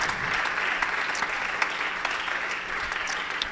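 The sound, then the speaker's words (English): A crowd in a church auditorium claps to the Lord as a healer during a prayer request, steadily and densely, countless hands blending into a loud, continuous wash of applause with scattered sharper claps standing out, and no talking over it. “Clap to the Lord if you believe He is a healer tonight.”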